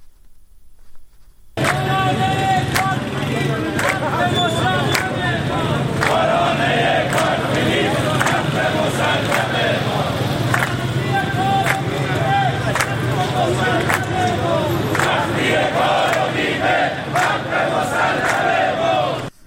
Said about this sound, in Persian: به گزارش سندیکای کارگران شرکت واحد اتوبوسرانی تهران و هومه، آنها شعار می‌دادند تا حقتو ندادن استارت نزن راننده. شرکت‌های خصوصی منحل باید گردند. سختی کار و بیمه حق مسلم ماست.